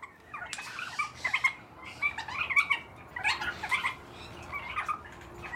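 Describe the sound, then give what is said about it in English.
Young captive birds in an aviary practice their song, singing scratchy, halting phrases, a run of squeaky warbles and chirps in uneven bursts of about a second each, with no one talking. “I go in with a microphone and follow birds around the aviary as they practice their song.”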